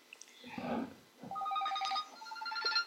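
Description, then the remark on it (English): A telephone rings with a bright electronic warble, its repeating tonal trill sounding steady for a couple of seconds after a brief muffled rustle. “Sounds like you got a phone ringing.”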